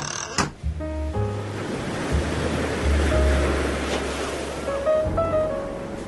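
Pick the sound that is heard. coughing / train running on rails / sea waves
sea waves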